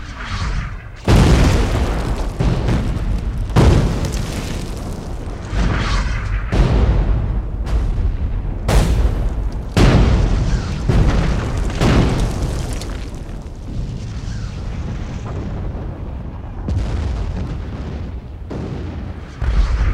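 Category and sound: impact, artillery shelling explosions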